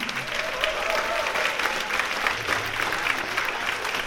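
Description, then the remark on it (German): A steady wash of audience applause for the bass player of a band from Wuppertal, many hands clapping densely and evenly for about four seconds, with a faint murmur of voices underneath. “Und zwar einen kräftigen Applaus am Bass”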